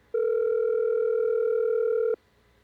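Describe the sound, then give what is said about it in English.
A single steady electronic phone ringback tone sounds for about two seconds, loud and clear, then cuts off abruptly into quiet. No one speaks. “Just let it keep ringing, see.”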